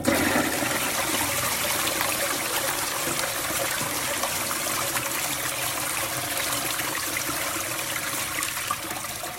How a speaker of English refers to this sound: The flush of the toilet. I thought the flush of the toilet went on just a bit too long. Would you like to hear it and you can judge for yourself?